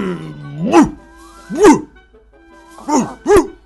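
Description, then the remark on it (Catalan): Four loud dog barks in an uneven rhythm, two spaced apart and then a quick pair, likely a human voice imitating a dog, with a short sustained vocal tone before the first bark. “Fuig, fuig, que m'espantaries amb aquests lladrucs tan forts!”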